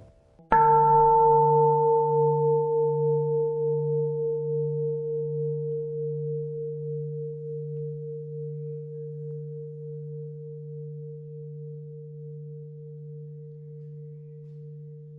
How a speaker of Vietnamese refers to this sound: Tại vì không biết thưởng thức tiếng chuông, lắng lòng nghe, lắng lòng nghe tiếng chuông quyền diệu đưa về nhất tâm.